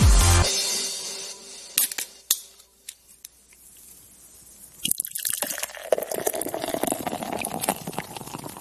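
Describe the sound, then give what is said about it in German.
A few sharp plastic clicks and crackles as a bottle of water is opened, followed by a steady, hissing splash of water being poured for several seconds, with no talking. “Warte, ich muss noch einmal ganz kurz hier noch ein Wasser aufmachen.”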